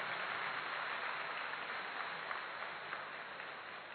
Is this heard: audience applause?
yes